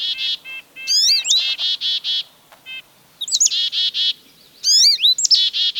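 Songbirds chirp busily at a backyard feeder, quick bright tweets and rising whistles arriving in repeated bursts with short pauses between them, loud and clear with no voices.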